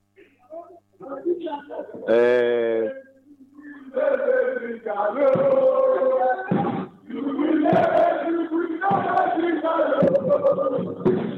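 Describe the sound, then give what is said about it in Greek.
Fans of Ekrixi chant slogans in unison during a time out in a match. Loud, drawn-out phrases rise and fall in rhythmic bursts with short breaks between them, starting with a sharp collective shout. “Ακούμε εδώ τα συνθήματα από την έκρηξη.”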